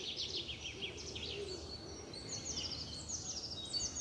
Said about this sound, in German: Deswegen klingt das jetzt auch immer nicht so schön. Mit dem Handy kriegt man nicht so eine schöne Tonqualität hin. Ich muss mal still sein, damit ihr die Vögel auch richtig schön zwitschern hört.